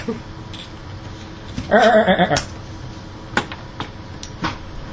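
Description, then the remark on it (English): A person imitates the goat sound from the film Stardust with a quavering, goat-like bleat lasting under a second, fairly loud, followed by a few scattered soft clicks. “Just think of the goat sound that the guy makes in that movie”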